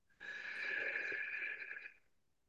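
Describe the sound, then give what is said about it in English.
A long, deep inhalation drawn in steadily through the nose, fairly loud, with a slight wheezy hiss that tapers off after about two seconds. “And so breathe in deeply.”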